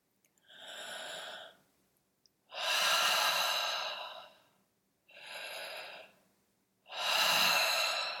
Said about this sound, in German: Wenn der Ausatem fertig ist, lass dich sofort wieder entspannt tief einatmen. Kreisatmung. Ganz sanft und langsam in deinem Rhythmus.